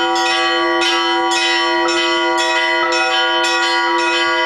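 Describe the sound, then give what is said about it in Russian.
Church bells ring out in a steady, overlapping peal, struck roughly twice a second, loud with long shimmering tones sustaining between strikes. No voices. “В приходах возводят не только сами храмы, но и колокольни.”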